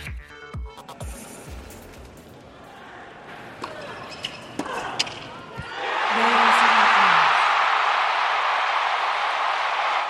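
tennis stadium crowd cheering

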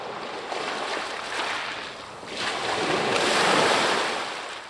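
waves on a beach

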